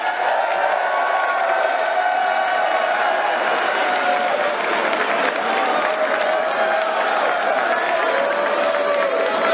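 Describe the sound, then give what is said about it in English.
A crowd applauds steadily for about ten seconds as a vote on who won a contest, a dense, even wash of many hands clapping at full volume, with scattered cheers and whoops rising over it. “If you think Lewis won, clap your hands.”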